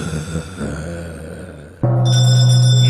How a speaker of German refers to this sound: So, das war's. Wir läuten die Glocke zur letzten Runde.